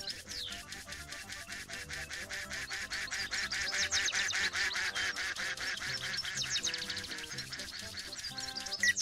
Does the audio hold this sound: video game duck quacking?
yes